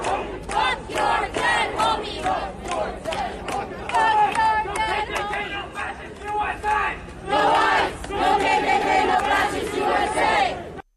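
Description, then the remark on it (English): A crowd of masked Berkeley students cheering and shouting about the killing of Charlie Kirk, loud overlapping voices rising in excited bursts across the whole stretch, with brief dips between waves of yelling. “I honestly, on a moral level, personally, it's abhorrent to me that people are cheering on the murder, the public execution of a guy like Charlie Kirk, who was just there to talk.”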